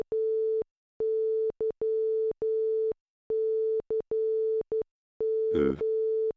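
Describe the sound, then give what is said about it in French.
A steady mid-pitched electronic tone beeps out Morse code, mixing long dashes with short dots in an uneven rhythm, fairly loud and clear, with a brief warbling burst near the end. “Ça, ça voulait dire « Mycos the night » en morse.”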